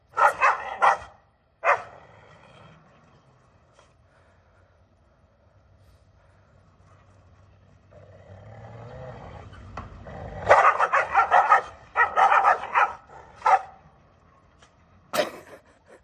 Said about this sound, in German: Ja, da begegnen sich zwei Hunde.